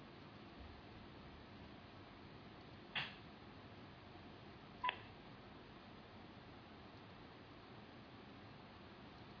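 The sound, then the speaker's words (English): Two short electronic phone keypad beeps, spaced about two seconds apart, sound over a steady background hiss with no one talking. “If when I'm beeping, can you hear it beeping? I'm hearing it.”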